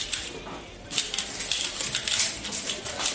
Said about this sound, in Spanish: Esto que estás escuchando no es alguien tecleando. Es Berta haciendo cubos de Rubik.